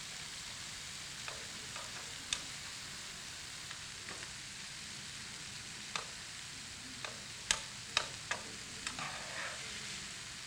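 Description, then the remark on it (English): Raw green peas with a little water cook in a pot for a one-pot meal with a steady, soft sizzling hiss while a utensil stirs them, making irregular sharp clacks that grow a little louder and more frequent toward the end. “And it's, see, this is going to be cooked while we are talking.”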